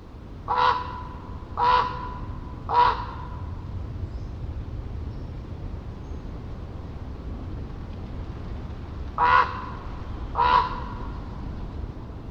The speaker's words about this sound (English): A raven's call is complex. Researchers have identified 33 different vocalizations, all based on context and sound and proximity.